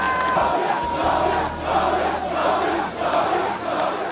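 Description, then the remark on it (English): A large crowd of supporters in Monrovia, Liberia, roars and cheers continuously as George Weah, declared winner of Liberia's presidential election, waves to them on Thursday; a dense wall of voices swelling in rhythmic waves, loud throughout with no single voice standing out. “An emotional George Weah waved to cheering supporters in Monrovia Thursday.”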